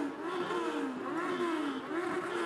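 A car engine revs steadily and loudly as the car is driven through a crowd during riots, its pitch rising and falling in waves over a few seconds, with no voices.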